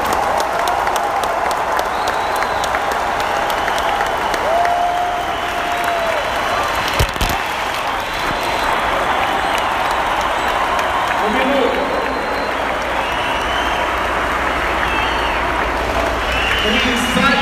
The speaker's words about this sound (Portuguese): Me façam um favor antes de eu terminar o treinamento, que está quase acabando. Uma salva de palmas para vocês da maneira que vocês merecem.